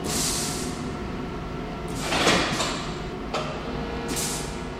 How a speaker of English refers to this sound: Fisher swings open a circular hatch modeled after a submarine door. It leads to a dark tunnel. He slides a cadaver inside.